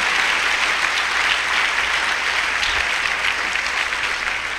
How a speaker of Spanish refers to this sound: Démosle otro aplauso al Señor, hermanos, que quiero entrar al punto de la palabra.